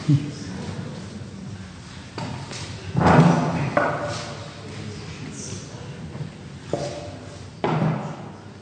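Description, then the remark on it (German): A chair is shifted and set down by someone getting a chair to sit on, with a few dull thuds and knocks spread over several seconds, one heavier bump standing out among quieter scuffs and taps. “Ich suche gerade mal einen Stuhl.”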